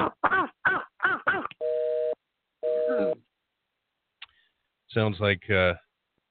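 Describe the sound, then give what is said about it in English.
A squeeze toy squeaks in quick, high, wavering bursts, mixed with two steady electronic telephone-like tones, then a few more loud squeaks near the end. “Sounds like Tom playing with his squeeze toy there.”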